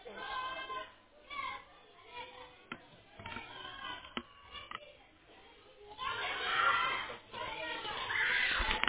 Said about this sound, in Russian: Блин, дети орут ужасно.